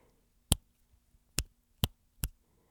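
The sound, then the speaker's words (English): Four crisp finger snaps, recorded with a stereo setup so they sound more in one ear, ring out alone against near silence, each a sharp, bright crack. The first stands apart, and the last three come in quicker succession. “So since I'm using a stereo setup right now, that means that I can kind of go back and forth to each ear, and like if I snap my fingers right here, then you hear it more in that ear.”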